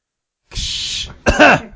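coughing

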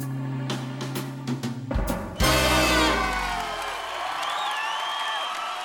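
audience applause

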